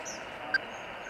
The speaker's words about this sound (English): The beeping sound clues Leah in to where the turtle could be. It's faint right now because this turtle's not close.